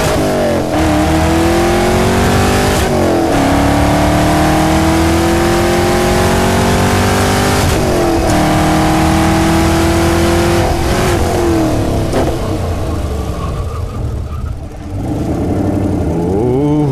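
A powerful next-generation Chevrolet Camaro (GM) engine revs hard and climbs through several gears, its pitch rising, dropping at each shift, then rising again. Loud, with no voices.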